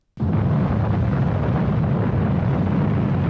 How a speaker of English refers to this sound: On the 16th of March 1985, Prague's Teshnov train station collapsed in minutes after a controlled explosion. Period footage shows that it threw up a gigantic cloud of dust.